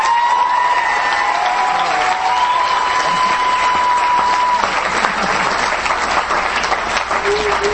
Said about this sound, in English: And the work that you do all year. So you always deserve another round of applause. Let's clap for them.